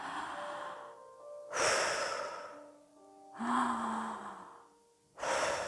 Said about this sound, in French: Et on reprend une respiration, une inspiration et une expiration normale.